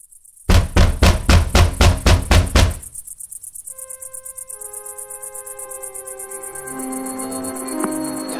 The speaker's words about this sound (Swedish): Någon bankade hårt på dörren. En aggressiv röst skrek åt mig att öppna så att de kunde komma in.